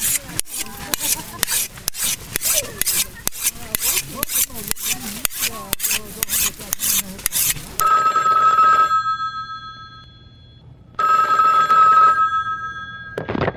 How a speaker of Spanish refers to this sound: Bueno, sigue sonando nuestro modernísimo teléfono aquí en Vamos al Corte.